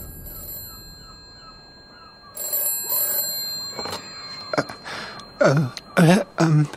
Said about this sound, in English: In a shabby South Coast B&B, Peter Piper was not used to receiving phone calls in his room.